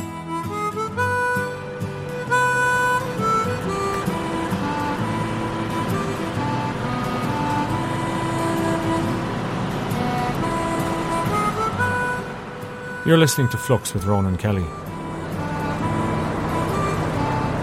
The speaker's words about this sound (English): It's a 1959 Leyland double-decker with an open platform at the back, and he's taking it from Manchester to Spittal for his son's wedding. Down through England, into Wales, across North Wales to Anglesey.